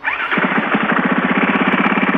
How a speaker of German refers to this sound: lassen Sie doch mal Ihr Motorrad an